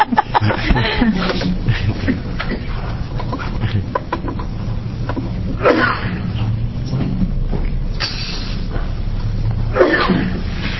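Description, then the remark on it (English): A sneeze bursts out during a committee hearing on a bill, over a steady low hum and muffled background murmur; other brief breathy bursts follow later. “Bless you.”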